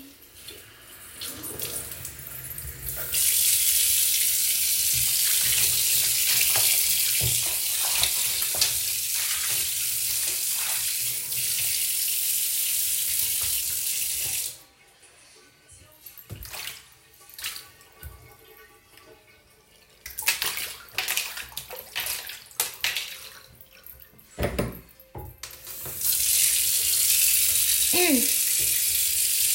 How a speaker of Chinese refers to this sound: 浴缸放个水。